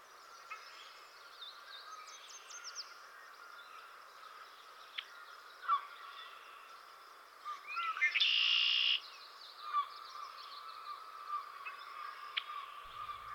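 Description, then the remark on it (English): A red-winged blackbird sings one loud, buzzy trill partway through, standing out over a steady bed of chirps and twittering from other birds. “That's a red-winged blackbird. You'll see more red when he spreads his wings and he sings.”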